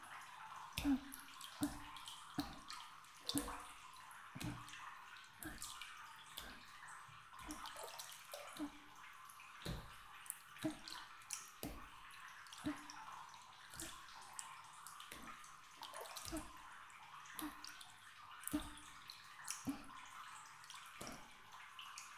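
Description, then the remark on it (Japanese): Soft, rhythmic light tapping on the shoulders as a massage, a steady run of muffled pats with a gentle thump to each, with no talking. “ずは軽く叩いていくね。”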